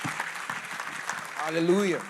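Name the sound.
audience clapping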